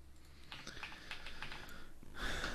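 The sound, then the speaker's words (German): Quick, uneven keystrokes tap on a computer keyboard, a short burst of typing as a Google search for "Wetter Berlin" is entered, with a louder, broader clatter near the end and no voices. “Geh mal bitte bei Google und gib mal ein Wetter Berlin.”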